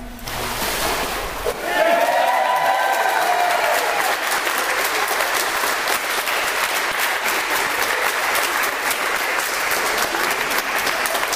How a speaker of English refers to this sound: When I do this, I want a real loud cheer as you bring her up out of the water, okay? You ready? Amen.